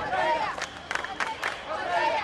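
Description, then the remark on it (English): A large crowd of protesters in Tahrir Square, Cairo, Egypt, shouts revolution-era slogans together in unison, such as "Down, down with the Morsi regime", voices rising and falling like chanted slogans, with a few sharp claps or bangs cutting through the din midway. “They shouted slogans heard during the revolution that ousted former leader Hosni Mubarak from power.”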